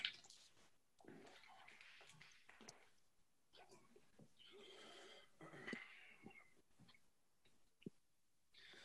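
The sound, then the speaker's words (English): Quiet sips of water by a person in Philadelphia, PA, in the U.S.: a string of breathy slurps and wet swallowing clicks with small pauses between them, and no one speaking. “All right, let me just take a hit of water real quick.”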